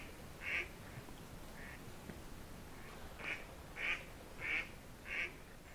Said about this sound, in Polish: No i wróciła kaczka.